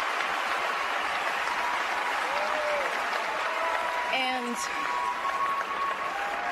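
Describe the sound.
Sustained applause from a large audience at the Grammy Awards, a steady dense wash of clapping that holds at an even loudness throughout, with a few faint whoops and cheers rising above it and a single spoken word.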